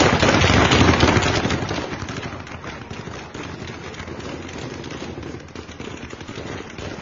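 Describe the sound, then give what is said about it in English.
Bursts of rapid automatic gunfire crackle in dense, overlapping volleys, loudest at the start and then continuing steadily at a slightly lower level, echoing; reportedly in the green zone, where a U.S. embassy is. “All right, that's gunfire, and this is reportedly in the green zone.”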